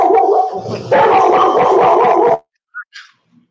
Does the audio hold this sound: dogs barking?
yes